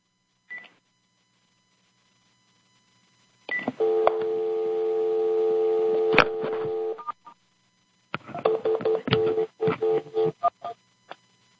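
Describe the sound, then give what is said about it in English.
A brief electronic blip, then a steady, buzzy telephone tone from a phone call lasting a few seconds, followed by a quick run of short dialing beeps. Clear, with no voices. “Why is that thing being triggered by me phoning on a separate phone? Maybe it's picking up the buzz tone.”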